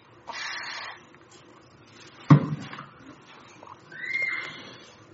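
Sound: speaker taking a drink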